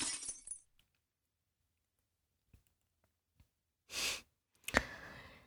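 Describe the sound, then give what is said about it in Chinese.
Glass smashes with a sharp crack and a brief ringing scatter of shards, cutting someone, preceded by a bright rattling burst at the start, a few scattered small clicks and a heavy breathy exhale. No speech. “你看，都被玻璃给割伤了，疼吗？”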